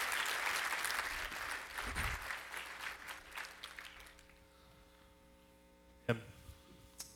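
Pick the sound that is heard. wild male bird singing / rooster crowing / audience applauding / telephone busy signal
audience applauding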